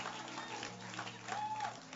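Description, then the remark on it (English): An audience claps steadily for a couple of seconds, a dense, continuous patter of many hands with voices and room murmur mixed underneath. “You know, when you hear that kind of thing, just keep good to clap. Just good to clap.”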